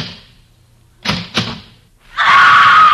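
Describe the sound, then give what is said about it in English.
Two heavy, punchy thumps land about a third of a second apart, followed by a loud, sustained high-pitched shriek. “The clock punched her back.”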